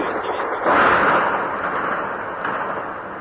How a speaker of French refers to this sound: Il y a eu surtout un barrage de grenades lacrymogènes et de grenades au chlore, me dit-on.